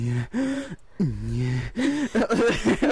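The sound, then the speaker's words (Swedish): A voice imitates Ganondorf's heavy, menacing breathing through the nose, a series of loud, drawn-out voiced gasps and growly exhales with no words, the last ones coming quicker and more ragged. “om jag hade liksom sprungit och liksom, ja, sprungit mycket och blivit anfådd, så kunde jag köra den här Ganondorf-andningen.”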